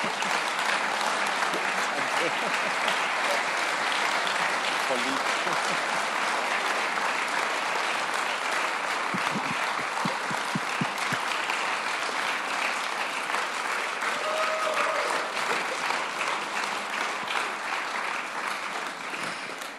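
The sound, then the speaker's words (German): A church audience stands and applauds people honoured for their work in the Kingdom of God, a dense steady clatter of many hands clapping for the full length, loud and even, with a brief burst of rhythmic low thumps partway through. “Ich würde sagen, um sie heute mit Ehre zu empfangen, steht doch mal auf und gibt ihnen Applaus für das, was sie wirklich investieren im Reich Gottes.”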